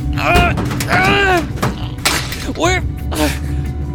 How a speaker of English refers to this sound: It's not working. I can't get the door open.